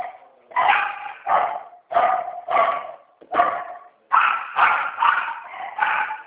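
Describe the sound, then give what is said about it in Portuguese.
Dogs bark repeatedly and loudly, sharp yappy barks coming in quick clusters of two or three with brief pauses between, and no voices present. “É os cachorros latindo.”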